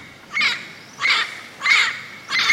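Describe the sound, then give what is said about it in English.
A parrot squawks four times in a steady rhythm, each call harsh, raspy and fairly loud, with short pauses between them and no talking. “A parrot would be a perfect companion on a ship.”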